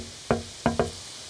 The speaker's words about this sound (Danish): Jeg prøver at banke på.